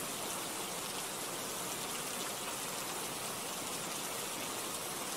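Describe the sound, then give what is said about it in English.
Steady cold rain patters densely on a hard surface, a continuous hiss of countless drops with no breaks, even in level throughout, no voices. “It's just the rain.”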